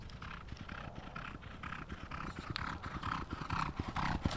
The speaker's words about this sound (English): He trains riders to exercise the horses. All right, they're going to go around again, then they're going to pull up, and then they're going to the gates.